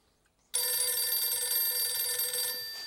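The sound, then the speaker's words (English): An old-style telephone bell in the hall of a residence starts abruptly and rings in one continuous, loud, metallic burst for over two seconds, with no voices. “He stands and looks down into the cradle before tearing himself away to answer the phone in the hall.”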